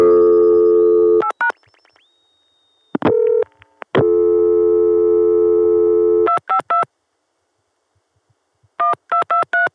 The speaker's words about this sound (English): 252 is a crossbar PBX in the Chicago sector. The Chicago tandem dials three digits into it. When it first starts to ring, there's a short little ring burst, and then the ring falls into a regular pattern. Here's a ringing number.